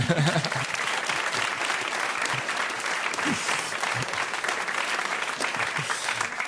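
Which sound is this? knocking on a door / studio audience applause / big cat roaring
studio audience applause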